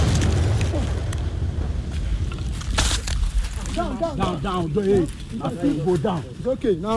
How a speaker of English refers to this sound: This is not a war zone. The explosion you just heard was from soldiers using explosives to destroy an excavator in the forest near the Brim River.